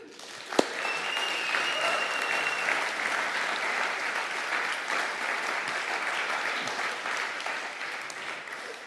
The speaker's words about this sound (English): And I'd love us to give them another clap.